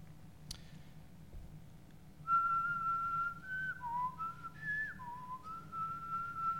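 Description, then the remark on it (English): A soft, sustained whistled tune from a drum corps director waking 120 members in a gym in the morning, stepping between a few pitches, rising and dipping over several seconds above a low background hum, with a sharp click just before it starts. “And it's amazing how that quiet of a whistle got 120 of us up, even though we'd slept maybe 2 hours every single morning.”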